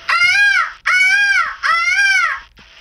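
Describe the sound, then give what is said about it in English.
A girl's voice imitates a peacock's call with three loud, wailing cries, each rising then falling in pitch, followed by the start of a fourth, all clear. “Peacock.”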